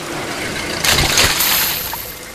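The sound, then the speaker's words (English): Rushing rainwater pours steadily down a storm drain with a broad hiss, swelling into a louder gushing surge for about half a second before settling back into a continuous wash. No voices. “Washed it right down the storm drain.”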